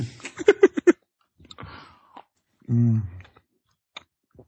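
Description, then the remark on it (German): Wet, smacking chewing sounds in quick bursts, followed by a few sloppy mouth noises and a short muffled hum, as someone eats a burger topped with tomato sauce cooked for two hours. “Boah, hör ich da Big Mac Soße?”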